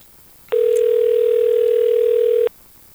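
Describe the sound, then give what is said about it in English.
A single steady ring tone of an outgoing phone call, made on a chilly Friday morning, the last day of September 2022, sounds for about two seconds over a quiet line, loud and even, with no one speaking. “Apparently this is going the way of the Judy Summers phone call”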